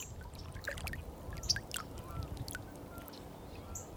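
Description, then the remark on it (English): Gentle lake water laps against the shore of a lake, a five-minute walk from a city block of houses, in soft, irregular splashes over a steady low outdoor rumble, with a few faint bird chirps and no one speaking. “See if we can hear the water.”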